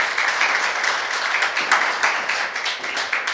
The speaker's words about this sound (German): Kleinen Applaus.